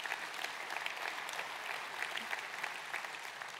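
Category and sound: crowd, audience clapping and applauding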